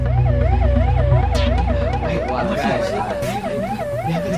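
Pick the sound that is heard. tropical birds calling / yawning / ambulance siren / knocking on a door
ambulance siren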